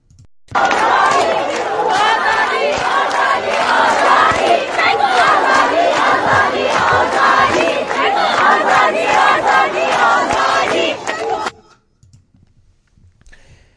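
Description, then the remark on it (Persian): A large crowd of students from Chamran and Jundishapur universities, marching on the university grounds, shouts and chants for freedom continuously, a dense roar of many voices with rhythmic cries rising above it, running loud for about eleven seconds before cutting off to near silence. “خیلی برای من جالبه که این آزادی رو اینجوری دارن فریاد میزنن و قدم به قدم به این آزادیشون دارن نزدیک میشن.”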